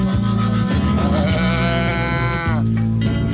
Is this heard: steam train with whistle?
no